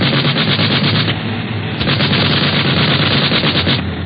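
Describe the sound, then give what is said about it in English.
Continuous rapid machine-gun fire from an airplane, shooting at another plane ahead, rattles over a loud, steady engine drone, the bursts blending into a dense, crackling roar with brief sharper cracks throughout. “Don't want your hair parted by one of them bullets from the other plane.”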